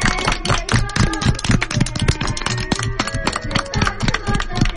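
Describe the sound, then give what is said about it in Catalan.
A steady patter of sharp hand claps lasting several seconds, bright and fairly loud, with sustained tonal notes running underneath; applause called for after a poll result on the favourite part of Christmas. “Un aplaudiment!”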